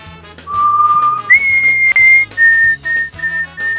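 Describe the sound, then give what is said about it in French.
A person whistles a short tune of sustained, clear notes, stepping up in pitch and then repeating a few shorter tones, heard through a narrow telephone line with faint background noise. “Hey, …, siffle pour moi.”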